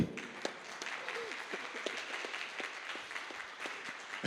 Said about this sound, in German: Applaus.